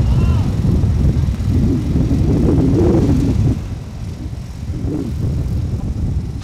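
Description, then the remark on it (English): Gusty wind roars outdoors at a crane work site, where an extension is being hooked up to the crane, with a heavy low rumble for a few seconds, then eases off before picking up again more softly, with faint voices mixed into the blustery noise. “When we hooked the extension up to the crane, big gust of wind came.”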